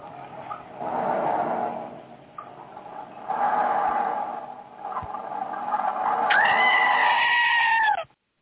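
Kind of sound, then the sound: animal, goat bleating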